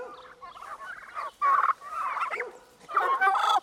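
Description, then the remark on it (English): Several turkeys gobble on a farm in quick, warbling bursts, with two louder gobbles standing out clear among rapid rolling calls, and no talking. “And they make the funniest sounds.”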